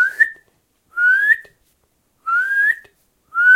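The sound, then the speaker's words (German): A nightingale repeats its loud, clear whistled contact call, which can also serve as a warning call, four times. Each is a rising note about half a second long, separated by short pauses of silence. No one speaks. “Und wenn bald der Gesang komplett verebbt, ist das Einzige, was bleibt von der Nachtigall, ihr lauter Kontaktruf, der auch zu einem Warnruf werden kann, ihr lautes.”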